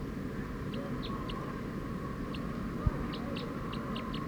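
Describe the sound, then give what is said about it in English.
A wild bird calls in a quick series of short, high-pitched notes, about a dozen in four seconds, fairly faint over a steady low rumble and hum, with one brief thump midway. “Decoy, the wild bird's going pretty fast now.”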